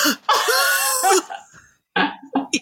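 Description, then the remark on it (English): A voice imitates an old pet's exaggerated fake cough: one long, loud, rasping hack, a brief pause, then a few shorter choppy coughs, with no talking. “She has learned that if she dramatic, like she'll just start coughing, even though she doesn't have to.”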